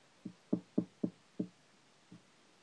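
knock on a door

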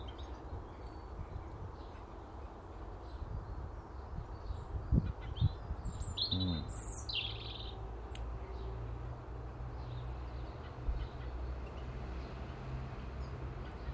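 blackbird calling

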